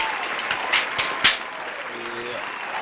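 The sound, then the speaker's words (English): A burst of crowd applause, a dense, steady patter of many hands clapping with a few sharper claps standing out early on, continuing at an even level for a few seconds; a hand clap sound effect celebrating Tamara's women's freestyle wrestling world title in Nur Sultan, Kazakhstan. “Hold on, where my hand claps at? For Tamara.”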